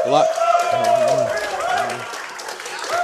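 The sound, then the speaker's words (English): Ice hockey teammates in the crowd at Crossroads in the Hogan Center clap and roar steadily for about three seconds as a player comes to the stage, loud, with shouting voices rising over the continuous patter of applause. “He came to the stage to the roar of his teammates who are here in the crowd at Crossroads.”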